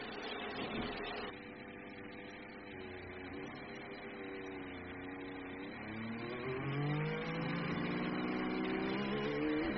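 Several racing car engines drone together, running in formation one behind another, their pitches climbing and overlapping as they accelerate in a steady, continuous roar with no voices.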